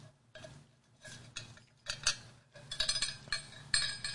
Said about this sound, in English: Yeah, that's my metal straw rattling around in my water bottle.